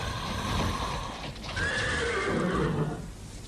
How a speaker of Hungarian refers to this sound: Végre megjött a kocsis. Hozza a lovakat. Az ablakból jól látom a holdvilágnál. 4 ló.